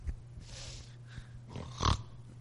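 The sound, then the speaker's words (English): A voice imitates snoring to portray Jesus sleeping in the boat, with a few rough, snorting breaths, building to a loud, gravelly snort near the end over a low steady hum. “I don't know if Jesus snored, but listen, Jesus is back there, and he's sleeping, the Bible says.”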